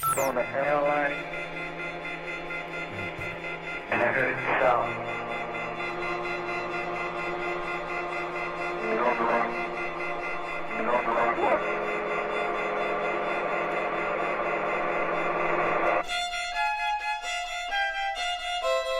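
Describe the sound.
A violin holds a steady, buzzing drone that mimics an out-of-order telephone tone, swelling with sharp bowed accents every few seconds before giving way to higher, brighter notes near the end.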